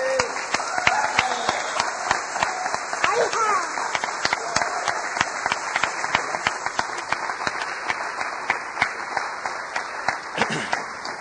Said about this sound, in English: can we give him a round of applause?